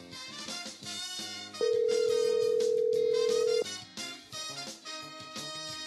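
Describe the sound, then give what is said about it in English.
A single steady phone tone, like a ringback or dial tone, sounds for about two seconds as a call is placed, over continuous background music, loud and clear. “So let's turn this music down a little bit here, and let's give her a call right now. Let's see if we can't get her on the phone.”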